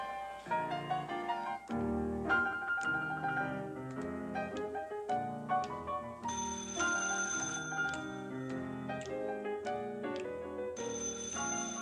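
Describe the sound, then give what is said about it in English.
A telephone rings repeatedly with bright, warbling electronic tones, continuing in an even rhythm with no voices. “Now watch those phone cues, will you, honey?”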